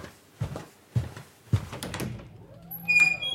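A front door being opened: a few dull thumps, then a latch rattling and a short, squeaky hinge creak, close by and fairly quiet, with no voices.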